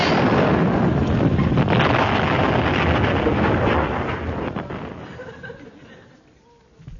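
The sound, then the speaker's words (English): A loud explosion bursts into a heavy, rumbling roar that holds for several seconds before slowly fading away into near silence. “Since I last spoke to you, the dreaded boot explosions have ceased.”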